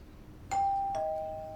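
A doorbell rings with two chime tones, a higher note followed by a slightly lower one, each struck sharply and left to ring out clearly with no one speaking.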